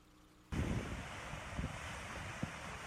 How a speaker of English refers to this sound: is that called the spillway? Spillway at Hubbard Creek Lake in June, I believe, of this year.